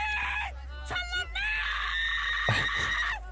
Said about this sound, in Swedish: Ja, men det där skriket är lite mer ilska efter gårdagens vistelse.